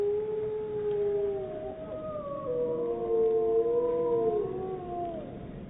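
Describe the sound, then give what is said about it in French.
Two wolves, a pack of two, howl together in long, overlapping wails that slide up and down in pitch, sustained, with no other sounds around them. “C'est un enregistrement de deux loups, d'une meute de deux loups.”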